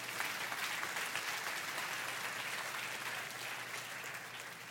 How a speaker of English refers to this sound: Can you say amen? Can we just give Jesus a round of applause?